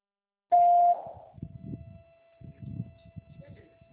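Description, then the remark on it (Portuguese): A single loud, steady mid-pitched voicemail beep lasting about half a second, sounding after a recorded phone prompt asking the caller to leave a name, phone number and message, followed by a person talking while a faint tone lingers underneath. “Após o sinal, informe seu nome e telefone e deixe seu recado.”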